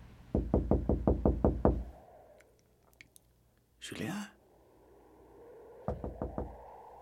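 The boss raps rapidly on the janitor's door, about eight loud knocks in quick succession, then a pause broken by a brief swooping sound, followed by a shorter burst of four more knocks.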